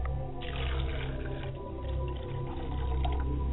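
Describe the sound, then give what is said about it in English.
Water is poured out as a libation to the east, pouring steadily in a continuous splashing stream, fairly loud, with a low gurgling undertone running throughout and no voices. “I pour libations to the east and I say Ashe.”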